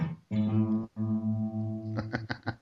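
Clumsily played distorted electric guitar: two long, droning held chords separated by a brief gap, then a few uneven, choppy strums at the end. No one speaks.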